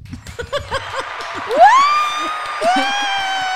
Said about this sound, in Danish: Klapsalver.